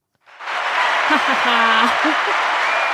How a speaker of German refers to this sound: Und genau, dann wird am Ende nochmal geklatscht. Und dann stehen alle auf und gehen. Wie wird geklatscht? Mit den Händen.